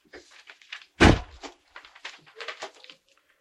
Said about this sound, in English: Sukut guy, no, close the door.